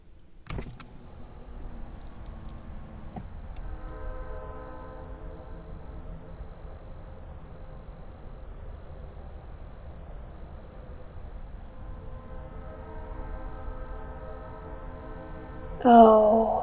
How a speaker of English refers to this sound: Hey. Do you want to hear the crickets?